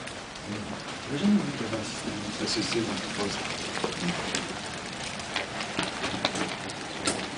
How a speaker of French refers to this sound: Il y a la pluie.